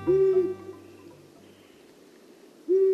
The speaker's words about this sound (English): The low-pitched hoot of a long-eared owl can carry for half a mile. The bird flies low across open fields in the dark, listening intently for rodent prey. When it's not hunting, the owl perches in a dense stand of trees.